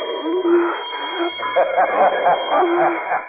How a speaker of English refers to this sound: No use, Regan. I can hear you move. A bell rings every time you move. I know exactly where you are.